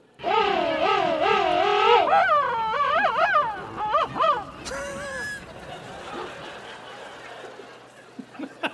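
A loud penguin call from the Antarctic: a long braying, trumpeting series of wavering harmonic honks, then shorter warbling phrases that taper off into quieter background noise.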